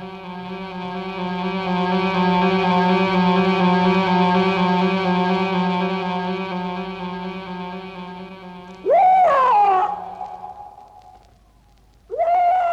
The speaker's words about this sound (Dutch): Wat is dat voor een geluid? Welk geluid? Nou, de uilengekrijs. Ik hoor helemaal geen uilen.